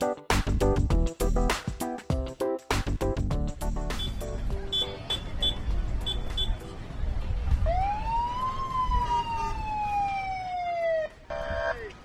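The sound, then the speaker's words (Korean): Emergency vehicle sirens wail and sweep in pitch, overlapping with short horn-like blasts and busy outdoor clatter at the start, fairly loud, with no clear talking. The vehicles are at a touch-a-truck event in the parking lot of Chantilly Library in Fairfax County. “네, 여기저기서 울리는 여기저기서 울리는 사이렌 소리.”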